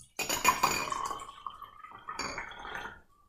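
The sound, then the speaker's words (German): Coffee pours into a cup with a bright gurgling stream whose pitch holds steady, then a second short burst of pouring and light clinking of cups. No one speaks. “Lass uns mal einen Kaffee trinken. Wir trinken jetzt einen Kaffee.”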